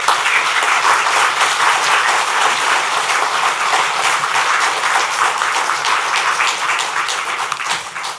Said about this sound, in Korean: 목사님 나오실 때 목사님 건강하게 오래오래 사십시오. 우리들에게 하나님 말씀을 들려주십시오. 그런 마음으로 큰 박수로 환영하겠습니다.